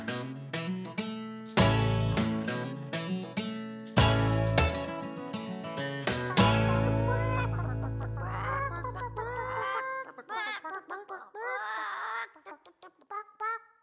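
A bouncy instrumental outro with steady bass chords and bright melody, then the music thins out and playful chicken clucks take over before the song winds down.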